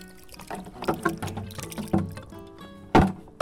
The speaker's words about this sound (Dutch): Ze hebben het zwaar met dit warme weer en dus extra verzorging nodig. Ze giet het water rijkelijk over de gele chrysanten die op het zwarte marmeren graf van haar zoon Roderick staan.